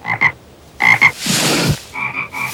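A frog croaks loudly in quick pairs of buzzy, ringing calls, broken midway by a longer raspy, hissing burst before the paired croaks return.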